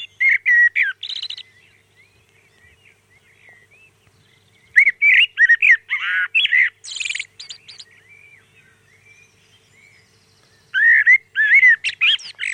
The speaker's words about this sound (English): Pop your head out of the window early in the morning, about 4:15 at the moment, and wherever you are in the county, you can hear the wonderful sound of one of our best songsters, the blackbird. Just listen to this.